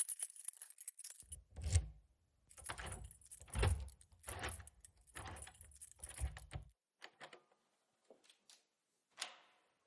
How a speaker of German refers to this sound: Es war 7 Uhr abends und der Schlüssel drehte sich zweimal im Schloss.